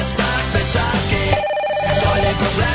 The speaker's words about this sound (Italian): Ancora telefono?